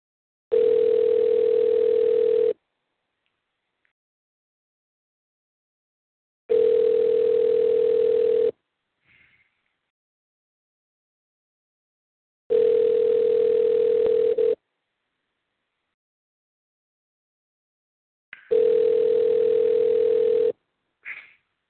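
A phone line rings back four times as a call is placed, each steady two-second electronic burr followed by about four seconds of silence, as if heard through a handset, with faint clicks between rings.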